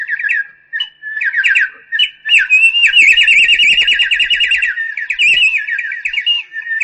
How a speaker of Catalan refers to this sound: Heus aquí un instrument o sonador ben simple fet a base d'un cantiret de terrissa, aigua i aire. Els tres elements que constitueixen la divisió antiga del món s'uneixen per a produir un so viu que recorda el cant del rossinyol